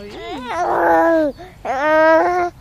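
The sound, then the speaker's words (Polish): A baby babbles in two drawn-out, sing-song vocal bursts separated by a short pause, fairly loud, with wavering pitch and no adult speech. “Muszą być pogaduszki, pewnie.”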